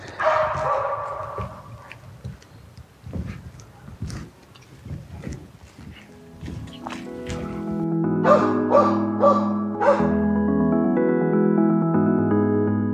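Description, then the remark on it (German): Dogs brought along by two passers-by bark in a series of sharp yelps over the first half, then steady melodic tones take over and continue to the end. No one speaks. “So, nachdem da jetzt gerade wieder zwei mit Hunden kommen, mache ich da mal kurz eine Pause.”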